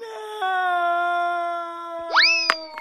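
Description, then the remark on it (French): A cartoonish boing sounds as a falling body bounces off a cliff, a sustained twangy tone with a pitch wobble, followed by a quick upward-sliding bounce effect and a sharp thump near the end. No one speaks. “Tiens, c'est bizarre, il rebondit sur la falaise.”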